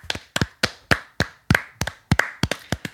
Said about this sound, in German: klatsch mal in die Hände.